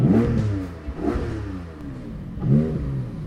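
The engine of a bright guards red 2022 Porsche Cayman GT4 sports car revs hard three times in quick succession, each burst rising in pitch before dropping back to a throaty idle, loud with no voices.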